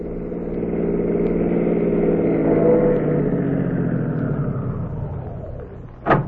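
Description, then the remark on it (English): Two city cars pull up in front of a rooming house on Second Avenue at 4 o'clock in the morning: a car engine rumbles, its steady low drone rising slightly as the vehicle pulls up, then settling toward an idle, ending with a brief sharp click or door sound. “So at 4 o'clock the next morning, two city cars pulled up in front of the rooming house at 8722 Second Avenue.”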